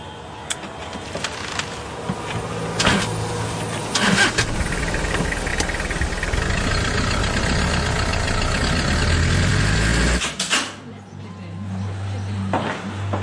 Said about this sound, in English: Driving. It's my jeep.